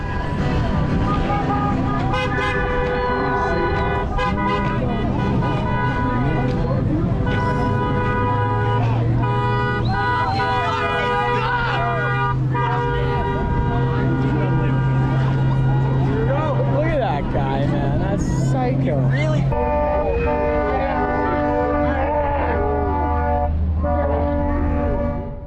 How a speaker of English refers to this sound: There was a lot of sympathetic horn honking